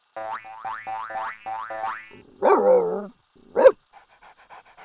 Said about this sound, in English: Notice the doggy noises in the background. They're cute and funny, which helps us remember the ad.